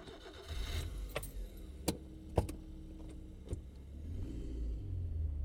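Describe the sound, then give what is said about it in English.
A car engine hums steadily at low pitch throughout a drive back from Dublin, with a few sharp clicks and ticks from inside the vehicle cutting through; no one speaks. “None of us said a word on the drive back from Dublin.”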